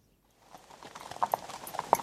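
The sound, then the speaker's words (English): Horse hooves clip-clop on a hard surface, a series of sharp, uneven hoofbeats that start quietly and grow louder as the horse approaches, with no talking. “See, both horses are ready.”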